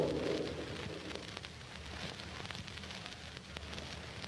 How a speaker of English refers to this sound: Hours pass, and the steady downpour continues.